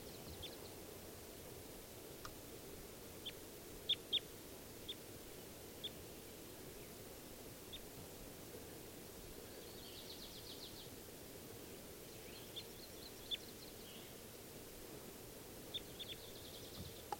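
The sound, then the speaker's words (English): A female bird calls from the top of a tree, with scattered short, high chirps and a few brief buzzy trills, faint against a steady rushing hiss. No one speaks. “And I think one of them's, the one that's calling is not 391, is actually a female.”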